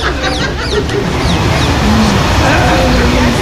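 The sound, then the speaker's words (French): Loud, repeated goose honks in a busy outdoor scene at the Jordan River, where a goose attacks and pinches people going into the water, harsh calls overlapping one another in quick bursts, with a steady rumble of background noise underneath. “Ils sont attaqués par une oie là-bas.”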